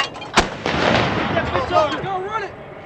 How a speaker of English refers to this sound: The other howitzers have already begun firing.